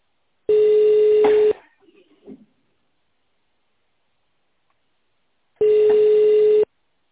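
telephone ringing tone

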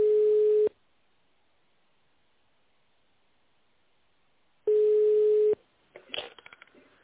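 telephone ringing tone

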